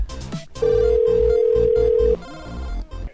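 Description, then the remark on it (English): A single steady telephone ringback tone on an outgoing call sounds for about a second and a half, loud and clear over a low, busy musical background, then cuts off abruptly. “I'm going to make one last call before I end the show.”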